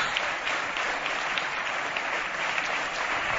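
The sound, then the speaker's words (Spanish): Steady audience applause for two-time NBA champion Pau Gasol fills the whole stretch, a dense wash of many hands clapping at an even, moderate loudness with no voices over it. “Aplausos.”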